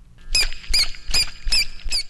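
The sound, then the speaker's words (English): A dolphin named Calvin makes a rhythmic train of short, high-pitched tones called a dribble, five squeaky bursts repeating at an even pace with a faint low rumble underneath, and no talking. “It's just a bunch of short tones that go on and on until we ask him to stop.”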